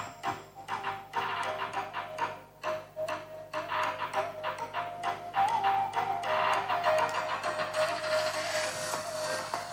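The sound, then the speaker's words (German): A small robot hums along steadily with irregular mechanical clicks and ticks as it autonomously drives the dishes to the dishwasher after a meal, following a preprogrammed routine; the dishes rattle and clink faintly as they're carried, continuing throughout with no voices. “So nach dem Essen fährt der Roboter dann das Geschirr selbstständig zur Waschmaschine mit einer Routine, die man dann vorher programmieren, aufnehmen kann.”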